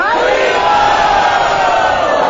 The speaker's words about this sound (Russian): Кто может это подтвердить? Громко крикните «Харибол». Харибол! Те, кто действительно хочет это подтвердить, крикните еще громче.